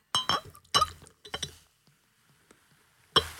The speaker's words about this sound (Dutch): ASMR met champagne. Schitterend. Cheers. Cheers.